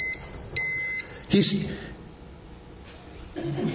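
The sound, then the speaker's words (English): Two short, high electronic beeps in quick succession, fairly loud, followed by a brief bump and faint voice-like murmur at the end. “Who is beeping? Something beeped.”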